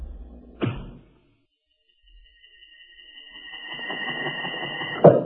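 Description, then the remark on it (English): In the opening of the radio adventure Great Arrow, an arrow is loosed with a sharp snap from a strong bow with a rawhide string bent almost to breaking, then a thin, sustained whistle as it flies at a target, growing louder before it strikes home with a hard thud. “A gleaming arrow set against the rawhide string. A strong bow bent almost to the breaking point.”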